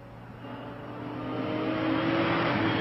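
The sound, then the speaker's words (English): A red sports car driven by Adrian Conan Doyle drones steadily and builds in loudness, its engine pitch rising slightly as it accelerates and revs, with no voices. “Adrian Conan Doyle driving a red sports car.”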